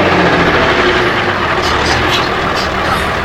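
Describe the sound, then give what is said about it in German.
Alfred's small truck's engine rumbles steadily and loudly as it pulls up at a beach, a continuous low drone with a faint rattling hiss on top, holding an even level from start to finish. “Als die Freunde mit dem Bus am Strand ankamen, fuhr auch Alfreds kleiner Laster gerade vor.”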